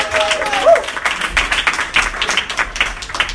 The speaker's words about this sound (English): A round of applause